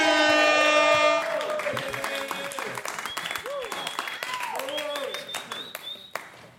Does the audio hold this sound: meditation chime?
no